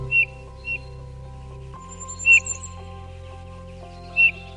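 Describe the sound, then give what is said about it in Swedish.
A small bird, a black-capped tit, gives four short, clear, flute-like whistled notes spaced irregularly over a few seconds, with a steady low mechanical hum running underneath throughout. “Den svarttoppade snödroppen låter som en flöjt.”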